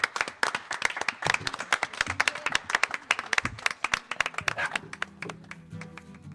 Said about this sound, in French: Voilà, et puis évidemment tous les gens qui nous ont accueillis, tous les techniciens, tout le monde, un applause.